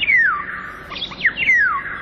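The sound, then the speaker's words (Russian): A bird sings in a city, two clear, descending whistled phrases with softer twittering between them, steady over a low, continuous background rumble of car traffic. “Птичьи голоса в городах пытаются пробиться к людям сквозь шум автомобилей и бывают слышны здесь совсем ранним утром.”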